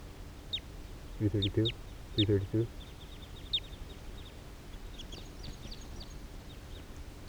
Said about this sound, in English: Some of the wild birds are coming down here near 3:32. There's a wild male sitting right here on the ground next to 3:32 with a female right behind. And there's females flying over here near 3:31.